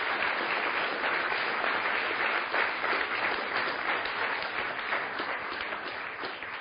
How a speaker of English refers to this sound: Why don't we give these people a rapturous round of applause?